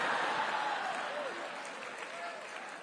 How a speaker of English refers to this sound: You guys have Piggly Wiggly? I've been doing this a long time. I've never gotten a cheer for Piggly Wiggly.